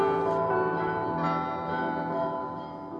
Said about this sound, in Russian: Тогда ему навстречу над полями, тоской щемящей наполняя ширь, гудел тяжелыми колоколами старинный Святогорский монастырь.